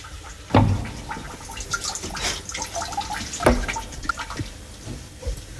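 water running

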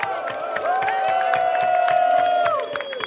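audience applause and cheering

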